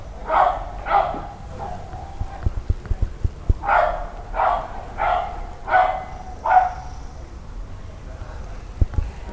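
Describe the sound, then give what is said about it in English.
A dog barks in short bursts, two quick barks, then a pause, then a run of four or five evenly spaced barks, over soft patter like light rain. “returning to the singularity point with the barking of the dog.”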